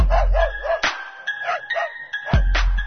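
A Great Dane growls low and steadily, breaking into a couple of deep, sharp barks. The sound is loud, with no talking.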